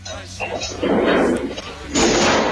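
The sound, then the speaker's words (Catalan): A bear opens freezer drawers in a house kitchen, recorded by the house's installed cameras: two loud, rough bursts of scraping and thudding, with a low rumble running underneath, as it deftly pulls the drawers open and rummages. “Aquests sorolls que sentiu són de l'os que està obrint calaixos del congelador i molt hàbilment els va obrint, remena una mica i s'endú una lasanya.”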